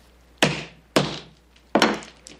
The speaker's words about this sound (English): Are you going to put something in your mouth you had to use a hammer on? It's only candy.